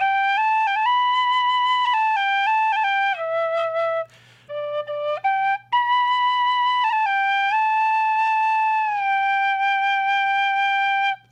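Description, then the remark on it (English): An Irish tin whistle, bought in Ireland, plays a bright, breathy melody of sustained high notes stepping up and down, fairly loud, with a brief pause near the middle and no talking. “I actually have an Irish whistle here that one of my piano students bought me when he was in Ireland.”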